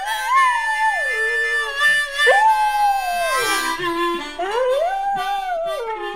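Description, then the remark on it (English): A black Australian Labradoodle named Sadie howls in long, sliding wails that rise and fall, singing along with steady harmonica notes. Both are fairly loud, continuous for several seconds, with no talking. “She's a black Australian Labradoodle and pretty much the best dog in the world.”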